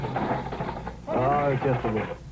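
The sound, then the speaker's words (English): A novelty bird sound effect, the Bob and Ray bird, played as a joke: a buzzy, rattling chatter gives way to loud, warbling squawks that waver up and down in pitch, with no one talking over it. “Just a little joke with the sound effects.”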